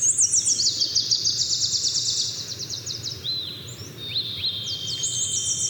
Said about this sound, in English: They spent up to 10 days at a time camped in the park, often waking up at 3 a.m. to the soundscape of birdsong.